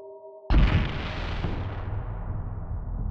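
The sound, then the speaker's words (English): A sudden, loud explosion-like bang cuts through a faint steady hum, then a deep rumbling roar lingers and slowly fades over the next few seconds. “A bang that sounded more like an explosion erupted.”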